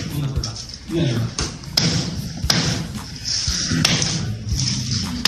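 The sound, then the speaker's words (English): At a school in China, a girl caught using her mobile phone smashes it with a hammer on her teacher's orders: several sharp, irregularly spaced blows, each a loud cracking thud, while voices carry on underneath. “So her teacher has her smash it with a hammer.”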